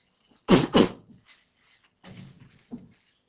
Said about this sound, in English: Excuse me, I'm just going to blow my nose.